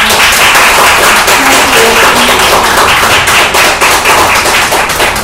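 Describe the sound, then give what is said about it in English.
Audience applause at a Hong Kong Heartbeat event fills the whole stretch, a dense, steady wash of many hands clapping at an even loudness with no pause or fade. “So let's give our round of applause.”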